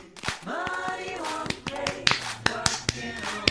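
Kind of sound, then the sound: human body sound, hand claps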